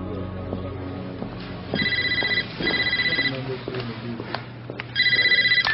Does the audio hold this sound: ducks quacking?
no